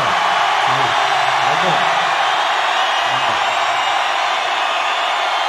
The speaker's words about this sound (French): Mais depuis tout à l'heure, on vous demande de gueuler. Vous gueulez. Vous vous niquez la voix.